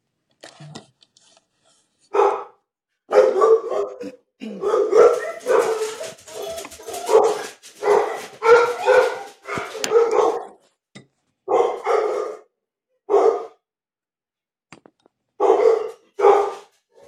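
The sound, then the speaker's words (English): Dogs bark in uneven bursts, some clipped and some drawn out into whiny, whimpering yelps, loud, with short silent gaps between the volleys and no talking. “can hear Amber's dogs”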